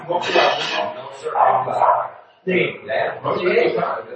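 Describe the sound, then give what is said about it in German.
A dog that does not belong to the speakers barks in a rapid, continuous string of loud barks that briefly break off partway through, then resume just as insistently. “Entschuldigung, wenn ihr den Hund hört, der Hund, den haben wir nicht, der bellt immer noch.”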